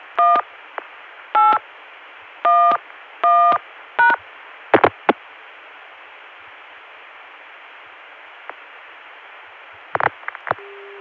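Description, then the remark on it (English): Five crisp touch-tone dialing beeps, dialing 1811 through a Baltimore Centrex line to get back to a Chicago dial tone, sound in quick succession over a steady telephone-line hiss, followed by a few sharp clicks, a long quiet stretch, more clicks, and then a steady tone begins. “At this point, 8 plus 454 has already been dialed, so we can dial 1811 to get back to that Chicago dial tone again.”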